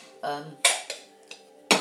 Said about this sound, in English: Try not to bang these plates too much.